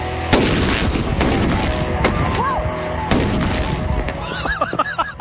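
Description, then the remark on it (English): A gas-filled bag bursts in a sharp, loud explosion followed by a rumbling roar, with a second bang a few seconds later and excited high-pitched yelps near the end. “All right, you guys ready to see what this bag of gas is capable of?”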